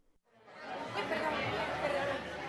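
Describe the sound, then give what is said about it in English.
Busy crowd chatter fills a tapas bar in Spain, many overlapping voices forming a steady, dense murmur that rises quickly after a brief quiet start and stays loud throughout. “Judging from the crowds in Spain's tapas bars, you might wonder where the economic crisis is.”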